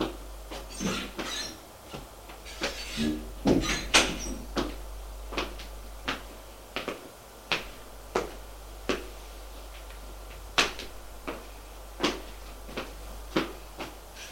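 A bedroom door opening, heard as a series of sharp wooden clicks and knocks spaced irregularly over several seconds, with a low steady hum underneath and no talking.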